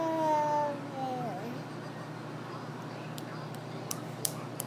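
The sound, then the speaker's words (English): A young child, asked what a lion says, makes a short, high-pitched, wavering vocal roar in imitation of a lion, lasting about a second, followed by quiet room noise and a few faint sharp taps. “What does a lion say?”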